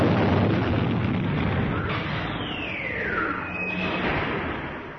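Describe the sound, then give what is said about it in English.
A loud, sustained explosion roars through a facility, a dense rumbling wash of noise with a descending whine sweeping across the middle before it slowly eases off. “An explosion reverberated through the facility, and the computer monitors inside the conference room went blank.”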